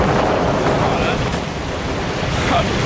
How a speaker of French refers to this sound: Mais enfin, Tornade! Mais qu'est-ce qui te prend? Professeur, t'as demandé quelques gouttes, pas un déluge!